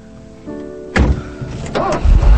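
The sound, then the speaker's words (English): A quiet tonal hum gives way to a sudden loud rush as a car engine revs and the car drives off, its low rumble surging and swelling through the final seconds. “As Bibi drives off, Jeanette pulls her shawl around her bare shoulders.”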